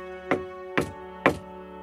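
Three heavy knocks on the large wooden door of a castle drawbridge, made by a young man who has dismounted from his horse, evenly spaced about half a second apart, each a dull, solid thud over a steady, low droning background.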